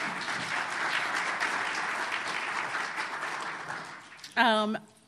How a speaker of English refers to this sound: So I would say please give them a round of applause because they're awesome folks.